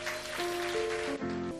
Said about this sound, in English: Hallelujah. Give Jesus another hand clap.